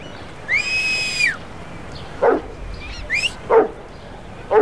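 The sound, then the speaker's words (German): A sustained, rising-then-steady whistle with harmonics that the dog recognizes, followed by several sharp barks from a dog on a leash wanting to return to its owner, spaced irregularly over a few seconds, clear against a quiet background. “Der Hund kennt den Pfiff. Er will zu seinem Herrn zurück und hat Much fast umgerissen.”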